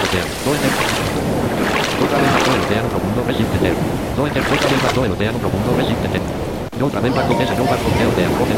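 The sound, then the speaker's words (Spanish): Open ocean waves in the deep ocean wash and surge continuously around a boat, swelling loudly every couple of seconds, with heavy wind buffeting the microphone throughout. “Bueno, aquí estamos en el océano profundo.”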